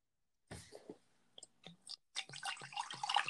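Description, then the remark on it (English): A short hiss and a few light clinks, then liquid glugs and splashes steadily into a glass from a freshly opened bottle, fairly loud, with no talking. “Why don't we crack this open”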